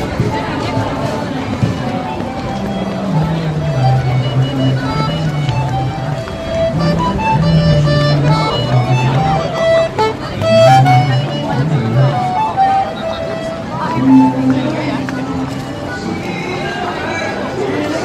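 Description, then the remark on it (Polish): A street musician plays melodic, sustained notes over a steady hubbub of crowd chatter and footsteps in a busy public square, the music rising and falling against the continuous background noise. “a można wysłuchać co kawałek kolejnego artysty. Zaraz jednego usłyszycie, kiedy będziemy obok niego przechodzić.”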